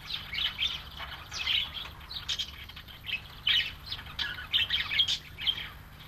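An Australian blue-winged kookaburra's laughing call: harsh, cackling bursts repeating in an uneven rhythm for several seconds, loud, with no voices.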